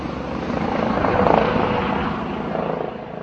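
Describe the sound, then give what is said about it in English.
A rescue helicopter passes overhead at a motorway pile-up on a hilly section of the D1 motorway between Prague and Brno, its steady rotor chop and engine roar swelling to a peak near the middle before easing slightly, loud and continuous throughout. “Several helicopters, more than 30 ambulances and other rescue units, together with the police, were sent in on Thursday to a hilly section of the D1 motorway about halfway between Prague and the country's second largest city, Brno.”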